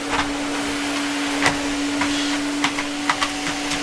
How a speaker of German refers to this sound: Keine Lust mehr zum Staubsaugen. Ich mache schnell eine kleine Pause.